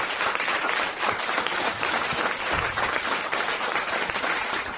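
Loud, sustained audience applause at a live show at the Melbourne Comedy Festival: a dense wash of many hands clapping steadily for the full few seconds, with no voices standing out above it.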